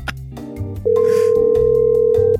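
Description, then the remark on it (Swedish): A telephone queue tone while waiting on hold with the Swedish employment agency: one long, steady electronic beep lasting about a second and a half, loud, over a low humming, music-like background with no talking. “Och då får du sitta i telefonkö. Nej, men säg någon kvart bara och så hör den här musiken.”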